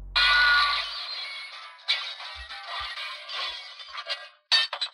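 A glass-shattering sound effect sample: glass shatters with a sharp, loud crash, followed by several seconds of tinkling shards scattering and settling, ending with a final bright clink.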